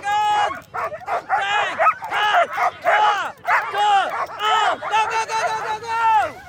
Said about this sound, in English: It takes one person per dog to hold the team back before the race starts. Meanwhile, the dogs make a racket while doing the canine version of revving an engine at a red light.